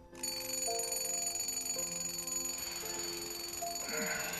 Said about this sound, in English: Waking, he rolls over and switches the alarm clock off, which reads 5 o'clock.